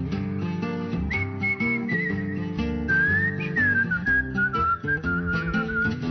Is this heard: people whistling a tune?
yes